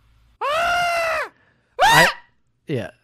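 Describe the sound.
A voice imitates the shriek of the legendary birds from the Pokémon movie three times: a long, sustained screech, then a shorter warbling cry, and finally a brief descending squawk, all loud with short pauses between.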